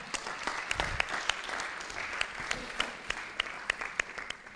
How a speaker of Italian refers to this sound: il cui regista quest'anno fa parte integrante del nostro staff organizzativo, Oreste Crisostomi, a cui farei un applauso.